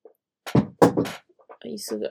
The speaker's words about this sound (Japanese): 椅子が変な音出しちゃいました。すいません。